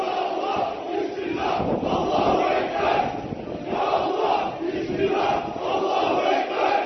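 A crowd of several dozen people shouts "Allah is great" in a rhythmic unison chant as they briefly push to approach a prayer site, the loud cries rising and falling in repeated waves with no pause throughout.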